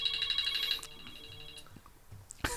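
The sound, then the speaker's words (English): A mobile phone left switched on during a live, unedited recording rings with a bright, repeating electronic tone pulsing rapidly for under a second, then stops, leaving quiet background murmur before a sudden rustle at the end. “I suppose I was trying to figure out how to switch my phone off, but anyway.”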